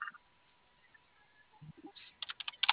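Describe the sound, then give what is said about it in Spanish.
Quick keyboard typing, a short run of sharp clicking keystrokes in the last second after a mostly quiet stretch, moderately loud. “Sí, el teclado está prendido, ¿qué crees?”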